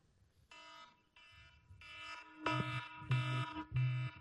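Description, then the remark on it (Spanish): During a sermon, an electronic alarm sounds in a steady series of about six harsh, buzzing beeps, each roughly half a second long, growing louder after the first few, with no talking. “Estoy buscando la alarma.”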